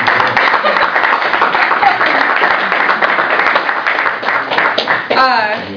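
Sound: round of applause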